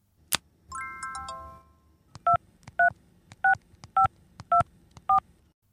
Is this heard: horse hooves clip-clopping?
no